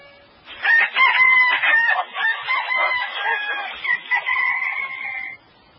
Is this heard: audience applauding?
no